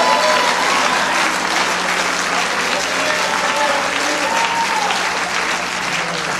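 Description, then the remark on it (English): An audience claps steadily and loudly for several seconds, a dense, continuous wash of applause with faint voices calling out underneath. “It will only happen when somebody will clap their hands, and somebody will lift their voice, and somebody will praise God.”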